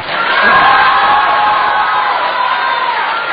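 A large crowd cheers and whoops in a steady, dense roar that stays loud for the whole few seconds, with shouts rising above the wash of applause and no one speaking clearly.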